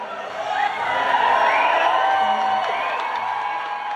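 A large concert crowd in London in March 2003 cheers and whoops in a steady, dense roar that swells after the first half second and holds loud throughout, with the band's lead singer faintly audible beneath the noise as she talks to the crowd.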